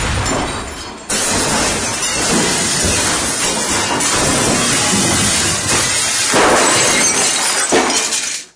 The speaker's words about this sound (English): So I just hear, it's like the whole house is coming down. There was this burst and then just glass.